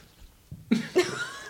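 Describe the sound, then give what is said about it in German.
A man clears his throat: two short, raspy bursts in quick succession, the second trailing off into a brief rough rumble, with no talking around it. “Immer wenn ich reden will, dann räuspert der sich.”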